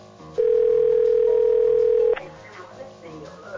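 A phone line's outgoing ringing tone for a special Christmas call from Santa sounds once as a steady, loud electronic hum lasting nearly two seconds, then cuts off, leaving faint background murmur and room noise.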